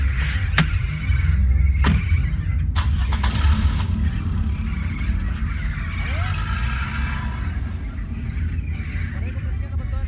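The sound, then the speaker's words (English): A pickup truck engine starts and rumbles steadily, with a few sharp clicks and a brief burst of noise early on, then a low mechanical drone continuing as the truck drives off into the mountains on a dark night. “As the truck began to move, I looked up and saw my parents chasing overhead, calling to me.”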